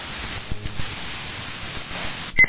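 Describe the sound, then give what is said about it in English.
Steady radio static hisses as a radio's tuner sweeps, then two quick, bright electronic beeps sound right at the end, signalling the very bottom of the tuning band, fairly loud. “A really cool feature about the radio stations that this thing has is it lets you know when you've come to the very bottom of the band with a beep.”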